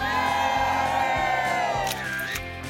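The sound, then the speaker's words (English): A large crowd outdoors on the Today show plaza on a Tuesday morning in December cheers loudly and steadily, with overlapping shouts and high whoops rising above the roar, the excitement dipping only slightly toward the end. “We got a great crowd out there.”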